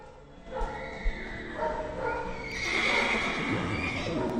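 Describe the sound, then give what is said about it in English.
A horse whinnies loudly and at length, its shrill, wavering call rising and falling over a few seconds, with faint barn commotion and a dog or two barking. It is among hundreds of evacuated horses, goats, cows and other animals sheltering at the Georgia National Fairgrounds south of Macon. “Hundreds of evacuated horses, goats, cows, and other critters took refuge this week at the Georgia National Fairgrounds south of Macon.”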